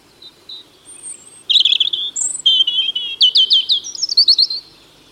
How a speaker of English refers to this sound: The robin really is unmistakable.